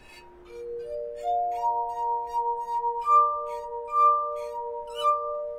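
A verophone, a glass instrument, being played: several sustained, pure glassy tones enter one after another and ring together in a shimmering chord, with soft rhythmic rubbing sounds above as fingers circle the rims of tuned glasses.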